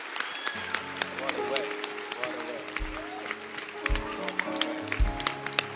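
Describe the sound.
An audience claps steadily, a dense crackle of overlapping hand claps over sustained keyboard-like tones, low thumps and voices mixed into the background.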